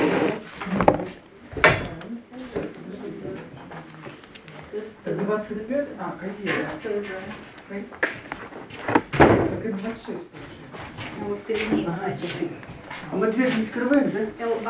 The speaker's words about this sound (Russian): Ну, а то, что она хлопает дверь.